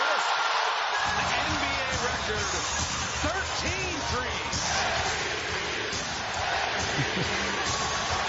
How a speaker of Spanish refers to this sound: No, la gente grita MVP, MVP, el récord, 13 triples en un partido, récord de la NBA, y el Oracle se viene abajo.